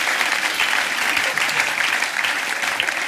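An audience applauds, a dense, steady patter of many hands clapping at an even loudness for a few seconds, with no voices standing out.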